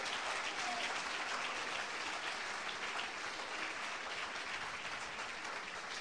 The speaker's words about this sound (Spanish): Cuando tú reconoces que ya no puedes, gloria, dele el aplauso.